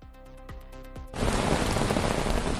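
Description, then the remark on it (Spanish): A short musical phrase with tonal notes gives way abruptly to a loud, steady wash of heavy thunderstorm rain, dense and continuous to the end, without any voices. “Y todo esto mientras comienza el otoño en Navarra con tormentas.”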